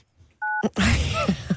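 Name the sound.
telephone dialing tones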